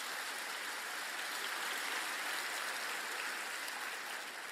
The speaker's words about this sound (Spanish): Pero lamentablemente, si va a dar un aplauso, apláudale al Señor.